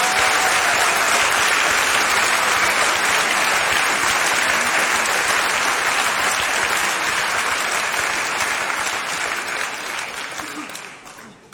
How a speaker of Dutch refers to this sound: Jongens en meisjes, geef ze een daverend applaus. Hier zijn ze, de Vliegende Panter!